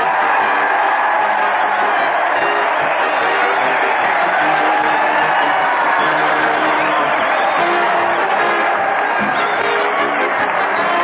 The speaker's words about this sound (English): Crowds cheering Fred Allen and Fortin as they march down from Maine, scattering fishing tackle and wet bathing suits on all sides.